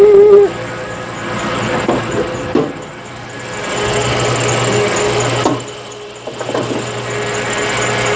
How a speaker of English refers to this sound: there's a really bad, like, high-pitched sound, like wee wee wee wee wee. I'm gonna start up the truck so you can hear it. I started up the truck. You can hear it now.